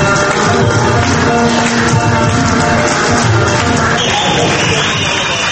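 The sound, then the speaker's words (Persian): A large audience at an Afghan clothing fashion show fills a hall with steady applause and scattered cheers, a dense, continuous roar of clapping and voices, loud throughout. “دوستا تشویق خود بشنویم.”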